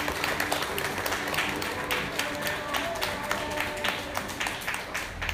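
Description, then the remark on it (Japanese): An audience at a public live recording applauds steadily for several seconds, a dense, even wash of many overlapping claps at a fairly strong level, with faint voices mixed in. “皆さん大きい拍手お願いします。”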